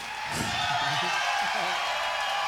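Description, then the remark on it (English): A concert crowd in Minneapolis cheers loudly and steadily, a dense roar of many voices with scattered shouts and whoops rising out of it, holding at full strength throughout. “Oh, it's just the cheer sounded like it needed that.”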